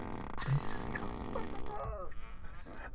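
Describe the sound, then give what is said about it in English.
A long, loud, buzzy fart rumbles on continuously for several seconds, wavering in pitch, with faint voices mixed in toward the end. “Stop the fart.”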